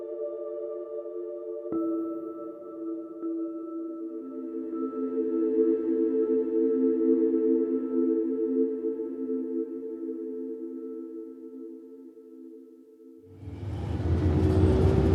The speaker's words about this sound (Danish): Nu sidder vi i en bus midt på eftermiddagen, og det er sindssygt varmt. Og man kan lugte sådan svedige mænd og sådan støv.